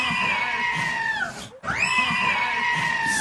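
A loud, shrill scream that blends the bleating cry of the viral screaming goat with a human shriek, heard as two long, wavering wails separated by a brief pause, with no talking.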